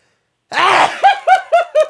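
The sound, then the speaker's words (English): A sudden, explosive sneeze, followed right away by four quick, evenly spaced voiced bursts, like short breathy laughs, with no other talking. “I have to sneeze, by the way, so this could have...”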